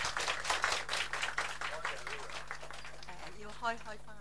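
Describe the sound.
An audience breaks into applause, a dense patter of many hands clapping that is loudest at first and gradually thins out, with a voice starting to speak as it dies away.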